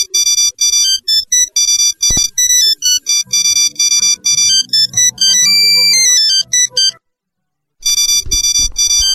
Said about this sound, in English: I changed my ringtone. What do you guys think? I like it. It's so good. I don't care for it. I feel like I should be on a horse.